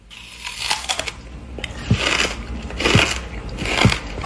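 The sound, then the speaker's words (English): A man bites into a whole watermelon, rind and all: a few loud crunches land about a second apart, with crackling chewing noises filling the gaps and no voices. “Dude eats the entire watermelon. You hear how crunchy that is?”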